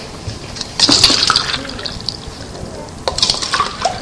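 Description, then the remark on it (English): Water is poured between drinking glasses in two short bursts, a splashing, trickling fill, moderately loud, with a quieter pause between the pours. “Because you can watch me pouring the water?”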